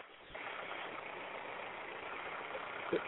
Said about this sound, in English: Say again, mate, I just got a truck pulling in.